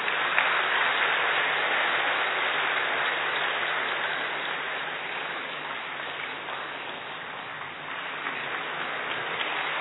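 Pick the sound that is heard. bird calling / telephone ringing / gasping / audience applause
audience applause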